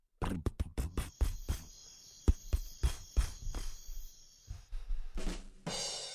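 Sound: crickets chirping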